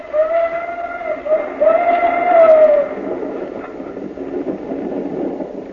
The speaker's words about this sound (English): Some train? The engine and two cars.